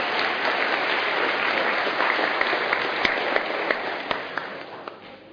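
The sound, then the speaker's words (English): A church audience breaks into sustained applause welcoming new members into the church family, many hands clapping in a dense, steady wash with a few sharper individual claps standing out, gradually thinning toward the end. “And yeah, round of applause, why not?”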